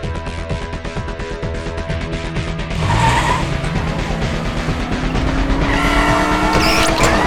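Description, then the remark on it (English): A car engine drones steadily, then revs louder with a rising pitch as tires squeal briefly, like a vehicle accelerating hard; no voices are present. “There's the car, right there.”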